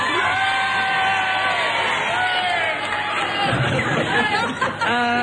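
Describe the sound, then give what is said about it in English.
A studio audience cheers and whoops loudly, a dense wall of mixed voices yelling and hollering together for several seconds, with individual shouts rising above the crowd noise, cheering for Kenneth Williams at the host's request. “If you agree with Kenneth Williams, you think I'm a nitwit, will you please cheer for him?”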